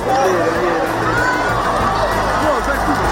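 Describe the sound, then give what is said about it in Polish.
A crowd of 45,000 in St. Peter's Square roars and murmurs in a dense, continuous wash of voices, with scattered shouts and cheers rising out of the steady babble, as black smoke rises from the chimney just after 9 p.m. after the conclave's first vote. “I dopiero tuż po 21:00 z komina wydobyły się gęste kłęby czarnego dymu i tak tę chwilę przyjęło 45 tysięcy zniecierpliwionych.”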